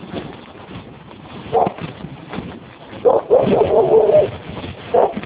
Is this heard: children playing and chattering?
no